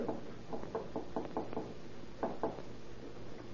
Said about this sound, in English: You knock on the door, and Mr. Harrison and I'll keep out of sight, and we'll surprise her.